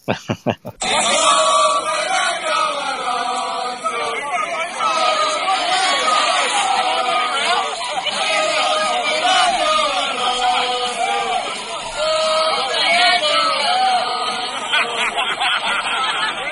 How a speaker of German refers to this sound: ich glaube, wir beschließen diesen Podcast mit dem Lieblingslied des Aston Martin Teams, dem neuen Lieblingslied des Aston Martin Teams, das sie skandiert haben nach dem Rennen, unterm Podium und beim Teamfoto: Alonso, Alonso.